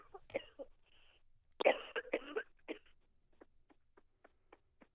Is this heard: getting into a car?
no